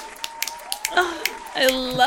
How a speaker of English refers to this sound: I love clapping for me.